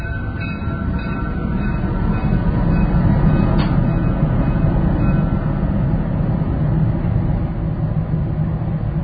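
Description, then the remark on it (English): A train rumbles past in a steady, loud, low roar that holds for the whole stretch, with a brief metallic squeal partway through and no voices. “We have these trains going through.”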